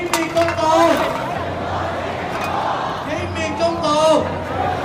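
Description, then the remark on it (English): A large outdoor protest crowd in Hong Kong murmurs and calls out in a dense, continuous roar, with a few louder voices rising above the babble, sounding like a busy street gathering heard from within. “Amongst the crowd, a performance artist protested by crawling on her hands and knees, dragging bricks and cans on pieces of string behind her.”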